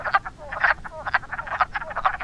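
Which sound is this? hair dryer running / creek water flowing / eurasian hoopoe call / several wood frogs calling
several wood frogs calling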